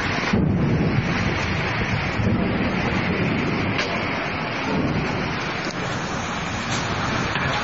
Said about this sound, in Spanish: Primero el cielo se comenzó a nublar y después se hizo presente la lluvia con las ráfagas descendentes.